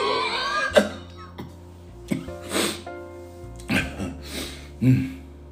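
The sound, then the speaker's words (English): A person coughs in a fit of harsh, raspy bursts, about six or seven spaced irregularly over several seconds, with a low steady tonal hum underneath, coughing out a cloud of smoke after inhaling deeply from a lit marijuana blunt. “His eyes immediately bulge and he coughs out loud. Coughs out a loud cloud of smoke.”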